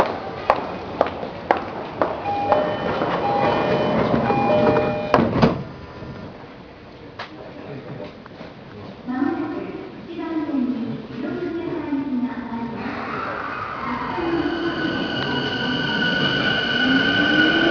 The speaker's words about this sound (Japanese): 発車いたします。 早すぎドアが閉まります。ご注意ください。ドアが閉まります。